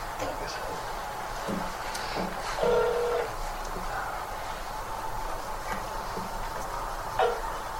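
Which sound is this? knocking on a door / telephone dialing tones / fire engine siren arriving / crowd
telephone dialing tones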